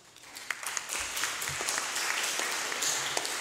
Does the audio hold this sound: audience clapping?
yes